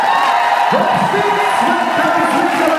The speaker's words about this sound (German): So tönt es, wo die 600-köpfige Gymnastikgruppe in die Arena reinkommt und anfängt, ihre 25-minütige Choreografie zu machen.